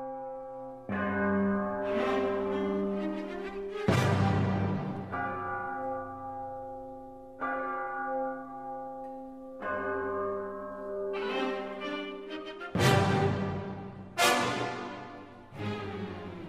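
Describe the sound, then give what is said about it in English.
Deep metallic strokes on orchestral bell plates ring out one after another, each with a sharp attack and a long, shimmering decay of widely spread overtones, sounding much like church bells tolling. “The bell plates have a wider overtone spread, and so these are more like real church bells.”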